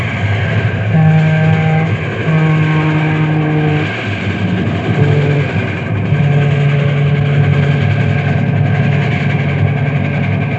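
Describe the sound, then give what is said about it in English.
A loud express train roars past a railroad crossing marked with wooden cross arms, a heavy continuous rumble overlaid with several long, steady horn blasts, with no one speaking. “Here come one now, Bill. That'll be the Fireball Express.”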